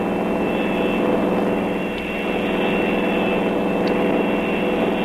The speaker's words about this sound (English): Frankenstein accelerates as Annie reaches into the engine compartment.